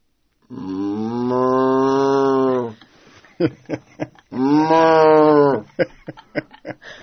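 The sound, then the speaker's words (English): A person who plays a cow does two long, drawn-out moos imitating a cow, each lasting a couple of seconds, loud, with short breathy vocal bits between them. “It really has intention and thought behind each move. And what might that sound like?”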